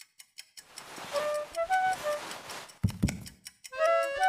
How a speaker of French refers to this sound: Les paupières alourdies, elle se laissait bercer par le tic-tac de l'horloge.